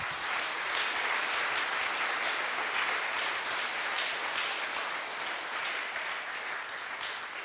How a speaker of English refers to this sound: But yeah, these are the guys and the invisible woman who you have to thank for this conference in just a little more ways than all the others who made this conference possible. So yeah, give a big round of applause for them.